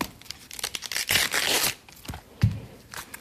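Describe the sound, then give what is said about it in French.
Crisp tearing and crackling as a few cabbage leaves are pulled off the head after its core is cut a little, with a longer ripping stretch in the middle and a sharp snap near the end; no voices. “Et pour le chou, alors, on va simplement couper un petit peu le trognon pour pouvoir sortir quelques feuilles.”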